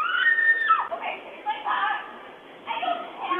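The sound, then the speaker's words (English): Desperate screams come in several strained bursts, sounding tinny as if picked up by a small outdoor camera microphone, with brief pauses between the cries; captured by a doorbell camera on a quiet afternoon near Lake Nokomis. “A nearby doorbell camera captured the desperate cries, tearing through what was a quiet afternoon near Lake Nokomis.”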